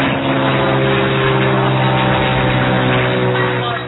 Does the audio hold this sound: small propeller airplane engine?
yes